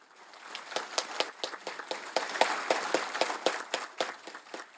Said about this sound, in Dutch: Applaus van de kardinalen die zich dus hadden verzameld gedurende 2 dagen rond Paus Leo de XIV en ook rond die verschillende thema's.